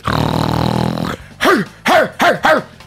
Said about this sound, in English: Only because people miss the barking. There you go. Some people hate the barking, but some people like the barking.